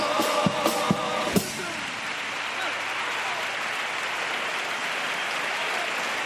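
A theatre audience in the stalls, several people standing, breaks into dense, steady applause after a paso doble lyric, rolling on for several seconds, opening with a few sharp musical accents before the clapping takes over alone.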